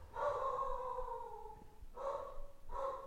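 A household's own dogs barking: one long, drawn-out bark that slides down in pitch, then two short, sharp barks in quick succession. Moderately loud, with no one talking.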